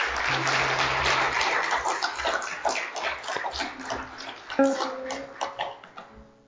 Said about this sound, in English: Well, it's okay to give them a round of applause.